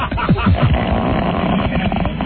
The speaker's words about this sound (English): I farted. Was that really a fart? I taped that after Don's show of farting. Oh, so that was not a spontaneous fart. No, but I really wanted to play it.